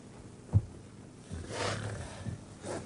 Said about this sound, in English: Behind the arras and snorting like a horse.